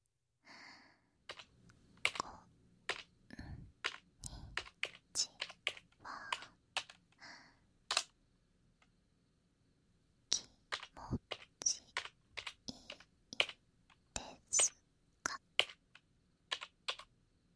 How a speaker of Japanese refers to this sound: せっかくだし、文字を打ってみようかな。